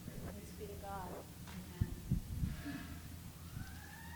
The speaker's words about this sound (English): Lord, first of all, we pray for wherever those sirens are going, that you are with them and with whoever is in need of help right now, God.